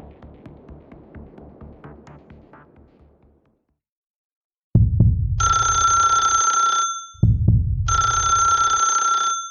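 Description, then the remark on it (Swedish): A soft, rapid thumping fades into silence, then a loud old-fashioned telephone bell rings twice, each long, clattering ring opening with a heavy jolt, insistent, with no voices; the call brings news that Olof Palme has been shot. “Sen ringde telefonen och så sa de att Palme var skjuten, sa de.”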